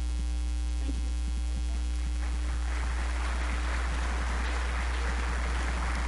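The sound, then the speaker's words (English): Steady rain patters and hisses, building from light scattered drops into a denser, continuous shower. A loud, constant low electrical hum runs underneath throughout. No one speaks. “We enjoyed the absolutely fabulous weather, and then he made it rain.”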